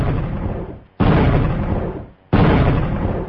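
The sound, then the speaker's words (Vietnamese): A signal firecracker is lit and shoots up into the air, exploding three times in quick succession. Each blast is louder than the one before and is followed by a rumbling tail that fades before the next. No voices are heard. “Pháo lệnh giọt lên không trung, nổ liên tiếp 3 tiếng.”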